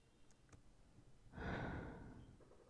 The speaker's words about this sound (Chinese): 别抖，不就是在你耳边吹气吗？